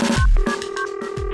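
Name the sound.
telephone ringing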